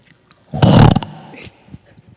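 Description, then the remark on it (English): A voice imitates a pig with one loud, rough, snorting oink lasting about half a second, followed by a brief, fainter breathy snort and then quiet. “And then the pig.”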